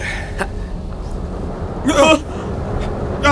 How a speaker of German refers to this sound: Was ist denn das? Ja. Oh, ein Erdbeben.